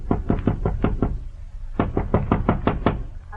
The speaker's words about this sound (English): I operate this way. Whenever I call on you, I just find your door and knock.